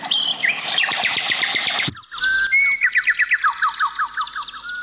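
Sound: birds singing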